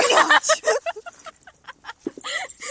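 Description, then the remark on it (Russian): Hard, rough gusts of breath blast straight into a phone microphone at the start, loud and distorted, then give way to quieter, muffled voice sounds. “Дунуть хотела. Нихера себе ты дунула.”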